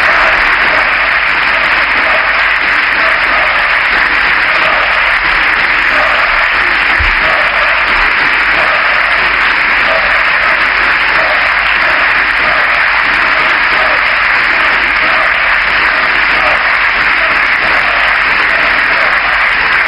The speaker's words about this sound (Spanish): gritos de dimisión por parte de la bancada popular que intentan ser contrarrestados por los aplausos del Grupo Socialista